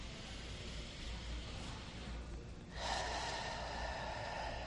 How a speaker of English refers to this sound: Breathe in through your nose out through your mouth. Breathe in through your nose again. Out through your mouth.